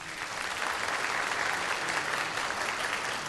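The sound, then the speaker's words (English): An audience claps steadily for a few seconds to vote that a claim about the number of neurons in the dolphin, human and chimp is fiction, a dense, even wash of many hands at moderate volume with no voices standing out. “If you think the number of neurons in the dolphin, human, and chimp are fiction, then applaud.”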